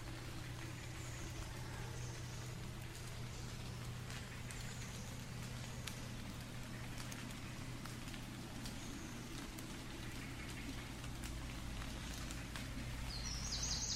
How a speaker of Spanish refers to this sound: Escucha a los pájaros, a esos compañeros y compañeras que están volando.